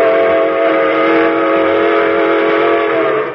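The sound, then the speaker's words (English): A steam freight train engine's whistle blows in one long, loud, unbroken blast, its steady chord of stacked tones holding for several seconds with a faint rumble beneath. “The train engines tooted their whistles longer and louder, thereby reducing the amount of steam available for hauling freight.”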